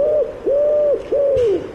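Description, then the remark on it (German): A pigeon coos in a played video, three drawn-out, smooth, hollow notes with short pauses between them, fairly loud, with no talking over it. “Die scheiß Taube.”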